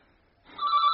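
telephone bell ringing

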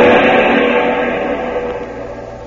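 car engine running

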